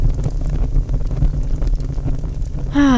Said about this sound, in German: Es knistert und knarzt das Holz im Feuer. Jetzt geht sie ja erst so richtig los, die perfekte Zeit für den Kamin oder den Kachelofen.